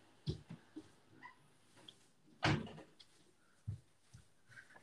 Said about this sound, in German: Jetzt ist es leiser. Ja, perfekt. Ja, ich habe meine Tür einfach zugemacht.